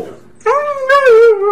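A dog lets out a drawn-out, wavering howl with a whimpering edge, fairly loud, preceded by a brief quieter whine, with no one talking.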